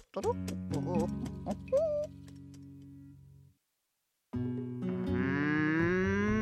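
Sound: cow mooing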